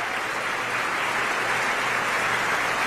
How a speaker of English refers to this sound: Everyone bowing together now. And the maestro applauding for the chorus.